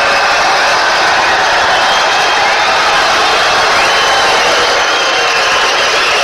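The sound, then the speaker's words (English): A large crowd at a rally for the president cheers and roars loudly and steadily for several seconds, a dense wash of voices and whoops with no single speaker standing out. “Crowd loves it.”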